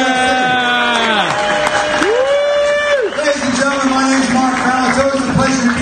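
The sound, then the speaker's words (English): A crowd applauds steadily and loudly for several seconds, with scattered cheers and whoops rising above the clapping, at a fundraising event for degenerative retinal diseases, applauding the people and dogs that help visually impaired people get around. “So a big round of applause for the people and the animals that allow us to get around here.”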